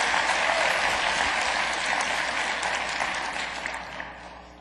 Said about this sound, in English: Applaud really loudly if you want him to release it soon, because maybe he'll see the recording.